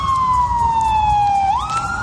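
Police car sirens wail loudly over rumbling traffic, one tone sliding steadily downward before jumping back up, as police cars arrive at the scene of a shooting in Monterey Park, Los Angeles, United States.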